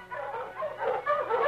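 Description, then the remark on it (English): A pack of Malamute sled dogs, led by the great dog King, barks and yips in an excited, overlapping chorus outside a small cabin, fairly loud, with no pauses and no voices. “The great dog King ran ahead of the pack.”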